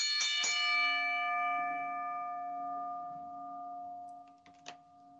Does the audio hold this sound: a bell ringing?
yes